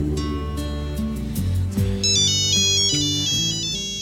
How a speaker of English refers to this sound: But then, of course, the phone rings.